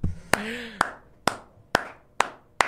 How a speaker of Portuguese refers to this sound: Uma salva de palmas pra Janja. Palmas, né?